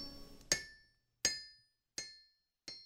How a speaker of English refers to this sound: At my feet, my father's anvil, his striking song of steel on steel, still hammering home.